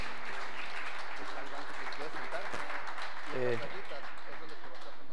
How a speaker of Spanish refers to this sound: Te voy a pedir que le des un aplauso